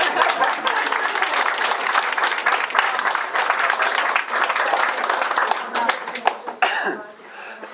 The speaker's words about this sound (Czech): My ti asi Marečku zatleská.